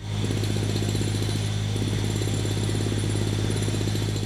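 Heavy construction machinery on a railway line modernization site in Poland, the Chybie–Żory section, runs steadily with a deep, constant engine drone and a rapid mechanical rattling on top, loud and unbroken throughout, with no voices.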